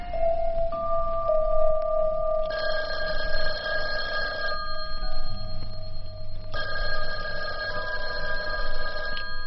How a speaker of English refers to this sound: The phone rang a couple of times. I didn't answer it. Let them call back in the morning.